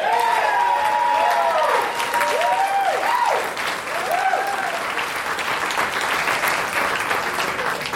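An audience bursts into sustained, steady applause to vote for a favorite contestant, staying loud throughout, with a few whoops and cheers rising above the clapping in the first few seconds.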